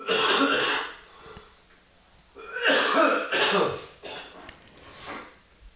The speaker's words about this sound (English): It's just going to keep draining down. Okay. The minute I cough it up, I can go spit it out and drain right, fill back up into my nose, and then just drain down.